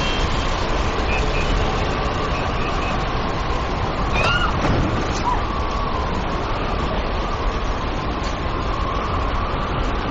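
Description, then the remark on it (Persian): A constant, dense roar of street traffic and cars mixed with gusting wind in stormy, dusty weather fills the whole stretch, with a brief vehicle whine rising midway and a faint steady tone running underneath. “نگاهش به هوای طوفانی خیابون و ماشینا.”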